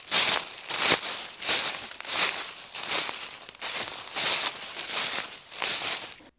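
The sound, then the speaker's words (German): Footsteps crunch through dry leaves on a path completely covered with dry leaves during an extreme drought, in a steady walking rhythm, each step a bright, crackling rustle, about nine steps in all, with no voices. “Durch die extreme Trockenheit sind wir teilweise auf Wegen unterwegs gewesen, die komplett mit trockenem Laub bedeckt waren.”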